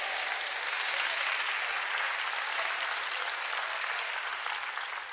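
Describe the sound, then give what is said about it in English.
Sustained applause from an audience, a dense, steady wash of many hands clapping at once for about five seconds, holding loud and even before easing slightly at the end. “I think I got 30 claps on that point right there.”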